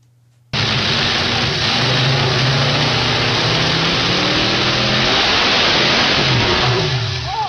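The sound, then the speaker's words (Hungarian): A powerful V8 car engine roars in abruptly and holds at high revs, loud, with a rough, bouncing edge as it runs into the rev limiter, sustained for several seconds. “Ez úgy hangzik, mint hogy egy V8-as autó lenne egy teljesítménymérőpadon, és elforogna a kereke, és így beleszaladna hirtelen a tiltásba, és közben szétesne a motor.”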